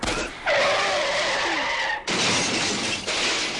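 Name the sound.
car skidding and crashing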